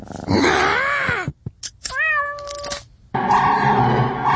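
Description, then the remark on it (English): A house cat meows loudly, a long wavering cry followed by a few short chirps, a steady drawn-out call, then another long plaintive meow. No one speaks. “So, petter beware, that warm body on your lap just might be ready to destroy your tender fiddles.”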